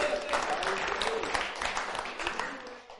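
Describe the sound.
A crowd claps steadily for about three seconds, a dense, even patter of many hands with faint voices mixed in, thinning slightly toward the end.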